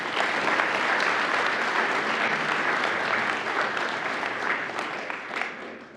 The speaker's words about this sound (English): And our group finished second this year in the state, and really brought a lot of knowledge to the table and represented Marysville very, very well. So let's give them a nice round of applause.